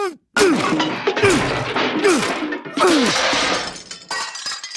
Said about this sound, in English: I think we've heard about enough. I'm gonna smash this PCD with my bureaucrat hammer.